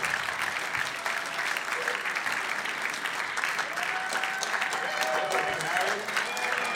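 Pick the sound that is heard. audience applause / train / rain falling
audience applause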